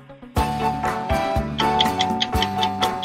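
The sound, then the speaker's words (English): A game show's 60-second countdown clock ticks steadily over a droning, tense musical bed, the sharp ticks loud and evenly spaced, with no one speaking. “All right, let's put 60 seconds on the clock,”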